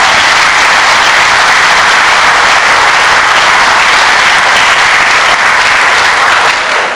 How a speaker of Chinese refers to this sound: 好，尊敬的各位老师、各位同学，是不是我建议大家再次用热烈的掌声对方老师的到来表示衷心的感谢？